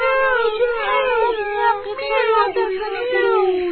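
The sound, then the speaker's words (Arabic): A human voice imitates a cat's meow, voicing a cat leaving a house, in one long, drawn-out, wavering tone that stays loud for several seconds. “ولما أرادت القطة المسكينة الخروج حاولت الوزة الأم منعها، لكن القطة صممت على الخروج، فتحت الباب وقالت ميو شكرا لكم، ميو شكرا لكم، أنتم طيبون وأنا لا أنساكم، ميو”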